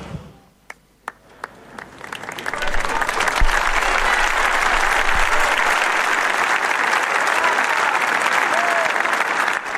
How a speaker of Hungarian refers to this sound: Lassan visszaszokunk mi is ehhez a búcsúzáshoz, a tapshoz és a Szentatya köszöntéséhez.